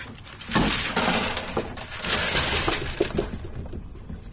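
A full bull rake cage of clams, pulled from the water, is dumped onto a boat, its haul holding more than just clams, producing a loud, continuous jumble of hard shells clattering and knocking together for several seconds, with no voices.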